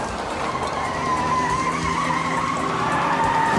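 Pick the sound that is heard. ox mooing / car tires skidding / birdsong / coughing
car tires skidding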